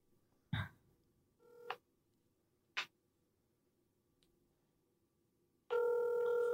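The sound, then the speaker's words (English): A few short phone clicks and dial beeps, then a steady, tonal telephone ring tone sounds loudly at the end with no answer, no voices. “Both of them won't answer the phone.”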